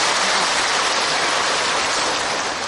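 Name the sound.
round of applause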